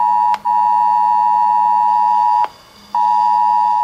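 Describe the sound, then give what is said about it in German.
A loud, steady electronic warning tone from a phone, a test alert for Germany's nationwide Warning Day 2023, blares continuously, cutting out twice briefly, once near the start and once for a half-second pause, before resuming. No voices. “Hat's bei Ihnen heute auch gepiept?”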